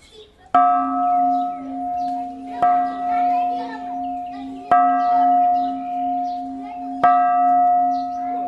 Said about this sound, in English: At the enormous Shwedagon Pagoda in Yangon, tourists ring the bells as a purification ritual.